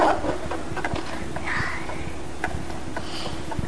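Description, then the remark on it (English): A child bangs on a bathroom door with a handful of sharp, irregular thumps, spaced unevenly over a few seconds against a steady background hiss in an echoey bathroom. “Are you banging at the door?”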